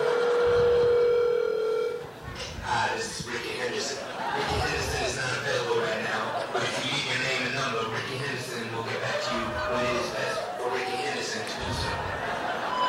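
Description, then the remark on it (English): A steady telephone tone opens, like a number being dialed on a phone to call Ricky Henderson, lasting about two seconds before it gives way to several people talking and laughing. “In fact, that reminds me, I got to give that motherfucker a phone call, you know?”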